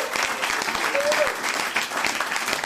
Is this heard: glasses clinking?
no